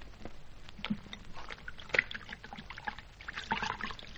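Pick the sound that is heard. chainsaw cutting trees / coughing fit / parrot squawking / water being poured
water being poured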